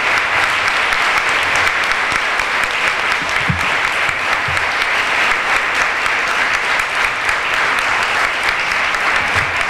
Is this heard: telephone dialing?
no